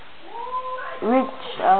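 A baby cat gives a few drawn-out, wavering meows, rising and falling in pitch, with a louder, more strained cry near the end and no other talking.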